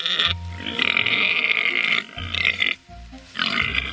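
Very large sows at feeding time squealing, barking and growling aggressively over one another, loud, with harsh drawn-out cries broken by a couple of brief pauses and deep guttural rumbles underneath; used for the Indominus creature sound.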